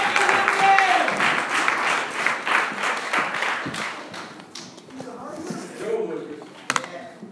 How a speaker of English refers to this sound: So let's give him a hand clap as he comes this morning.